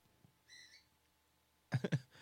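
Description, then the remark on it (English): A pet bird named Dr. Bird, loose in the studio during a live show, chirps: a faint, short whistled tone, then a pause and a louder cluster of two or three harsh, squawky chirps. “Oh my God, Dr. Bird is still loose.”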